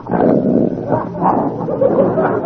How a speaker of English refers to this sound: That's the biggest dog I ever seen.